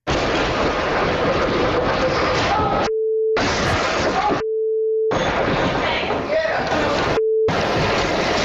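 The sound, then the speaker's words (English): A loud, continuous storm roar as trees fall, with crashing and children shouting and cursing over it, recorded from the basement and broken several times by steady electronic censor beeps that cut out the shouted words. “So this is what you're hearing from a whole other level. The sounds of the trees falling.”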